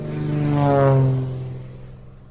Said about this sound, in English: You can just do it with ultralights, right? Perfect, A caravan of ultralights across Alaska.